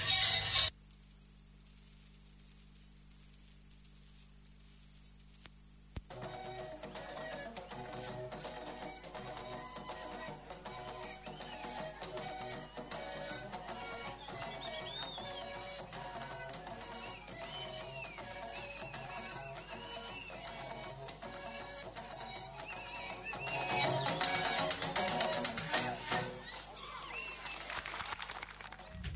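After about six seconds of near silence, breathy pan flute music plays through a phone speaker as the introduction to a segment on the Solomon Islands, a gliding melody over a steady backing that swells louder near the end, with no one talking.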